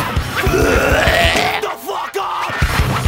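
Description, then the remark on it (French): Someone retching into a toilet: loud, strained, guttural heaves in a few rough bursts, with gurgling, throaty sounds and no speech. “C'est juste comme bon, petit essuyage de bouche, je vais aller me rincer.”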